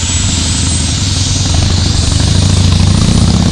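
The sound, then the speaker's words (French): A helicopter's rotor thumps steadily and loudly, with a deep low drone and a faint high whine from the engine, growing slightly heavier as it sets down at night. “Nous retirons les crampons de roue. Nous atterrissons.”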